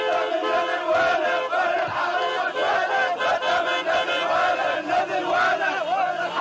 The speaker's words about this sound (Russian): В Наджафе тысячи людей вышли на улицы, выражая бурную радость по поводу смертного приговора Хусейну.